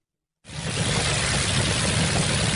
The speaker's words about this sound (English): That's actually the sound of its 12-cylinder engine in operation. It's a great sound.